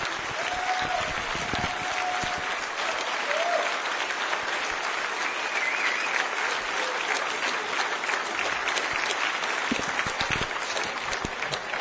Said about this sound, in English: Okay, so first off, DEF CON 13 would not have been possible without all of the speakers. So let's give a round of applause to the speakers, if you were.